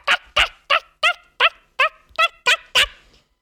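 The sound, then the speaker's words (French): A human voice imitates a goose honking, giving nine quick, evenly spaced nasal honks in a steady rhythm, fairly loud, with no other talk. “L'oie, elle la casse.”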